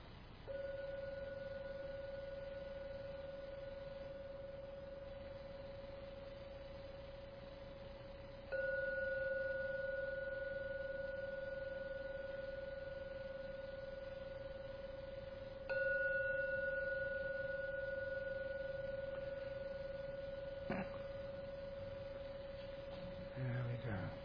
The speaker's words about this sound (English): I'm now ring the gong 3 times to end the meditation.